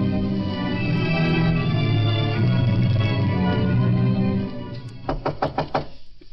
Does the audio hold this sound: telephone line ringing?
no